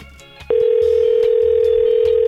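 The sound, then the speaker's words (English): After a brief quiet moment, the ringback tone of an outgoing telephone call starts: a steady, loud electronic tone that holds unbroken to the end, with a faint low rhythmic pulse underneath. “Oh, she better answer. This is the last one.”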